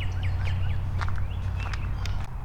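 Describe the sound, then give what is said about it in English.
Several birds chirp and call at once outdoors in a forest, a busy overlapping chorus of short tweets and whistles over a steady low rumble, with no one speaking. “Lots of birds doing birdie stuff out here today.”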